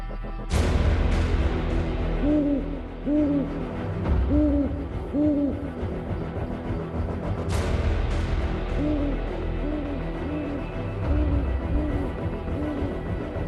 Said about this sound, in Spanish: Estáis escuchando a un búho porque se ha hecho de noche ya.